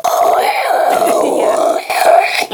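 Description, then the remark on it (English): A 56K dial-up modem connecting: a steady, loud screech of warbling tones and hissing static that shifts pitch in sweeps for a couple of seconds, with a brief dip near the end. “And if you're under the age of 20 and staring at the screen right now, it's because you've never used 56K dial-up, and that's you're awesome, so lucky.”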